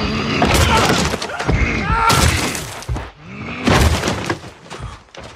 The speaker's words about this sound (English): Great, and now let's hear the giant's head smashing of the wall against that hapless archer.